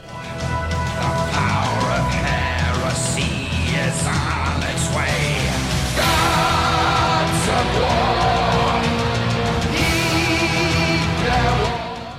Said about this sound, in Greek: Παρά την απρόκλητη αστυνομική επίθεση και την καταστολή, οι συγκεντρωμένοι παρέμειναν στο χώρο έξω από τα δικαστήρια, φωνάζοντας συνθήματα και καταγγέλλοντας την απρόκλητη επίθεση των ΜΑΤ